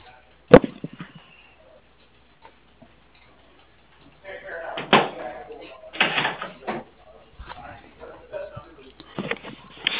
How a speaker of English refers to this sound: Sure. Let me close my door. Can you hold on a second?